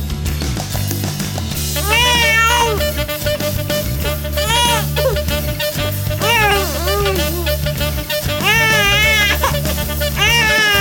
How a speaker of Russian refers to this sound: И вот дитя плачет в корзинке, и сжалилась над ним дочь фараонова, и сказала: это из еврейских детей.